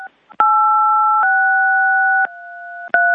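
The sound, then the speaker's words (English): During a meeting, someone plays with a phone's keypad: a run of long, steady two-note beeps, each held about a second. The pitch shifts slightly with each new key, and a sharp click marks every change. No one speaks. “Could everybody, whoever's playing with the phone, stop playing the phone.”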